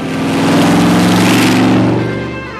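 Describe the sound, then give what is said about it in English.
A car engine runs loud, its deep steady rumble swelling and revving slightly before easing off toward the end, with no voices over it. “Well, there it is. Yeah. Well, it's a cool car.”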